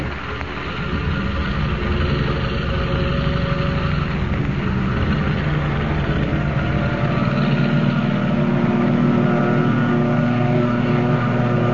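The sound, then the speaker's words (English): A powerful seaplane engine roars steadily and loudly, its deep droning pitch gradually rising as it builds power to take off from the water into the darkness, with no voices over it. “Rising from the water like some monstrous seabird, the plane roars into the darkness, headed for the open ocean.”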